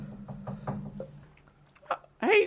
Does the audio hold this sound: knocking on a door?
yes